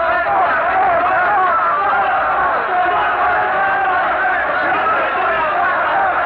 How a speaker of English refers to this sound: But the crowd will not be moved. Their frenzied, hysterical shouts are filling the square with a mighty roar of fury, and they're stoning Savonarola now, all turned against the man that they once loved and revered.